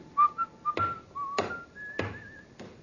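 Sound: man whistling a tune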